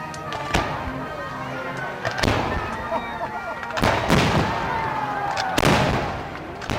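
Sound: fireworks exploding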